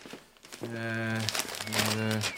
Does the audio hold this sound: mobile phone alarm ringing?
no